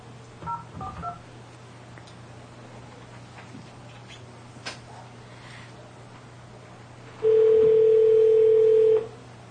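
Telephone keypad tones: a few quick, faint beeps near the start, then after a pause a single loud, steady electronic tone held for about two seconds, with no one talking.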